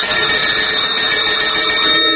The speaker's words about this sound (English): You hear these bells, don't you?